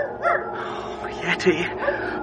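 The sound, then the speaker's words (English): The dog Snowy howls for the dead in short, wavering, plaintive cries that rise and fall, heard over a steady, low background rush. “It's Snowy howling for the dead.”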